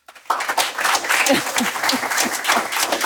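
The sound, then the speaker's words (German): An audience in A01 applauding to welcome a Deutsche Post DHL Group communications executive, dense steady clapping that starts abruptly and continues loudly throughout, with a few voices faintly mixed in beneath the clapping. “Nochmal herzlich willkommen und natürlich einen dicken Applaus, wie üblich in A01.”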